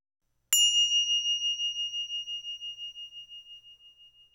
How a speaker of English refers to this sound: Mindfulness bells.